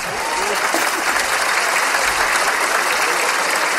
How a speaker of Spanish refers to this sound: Yo no sé si están aplaudiendo la vida o que saben que ha cachado. No lo sé. Creo que están aplaudiendo el esfuerzo, ¿no? De irse hasta otro país buscando un futuro y lo encontró.